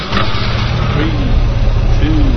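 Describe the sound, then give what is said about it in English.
A steady, loud car engine in a racing video game, started at the beginning of a race against computer players, revs and drones continuously with low rumbling harmonics, a small rising pitch sweep, and a game-like synthetic quality, with no pauses across the short stretch. “Start your engine.”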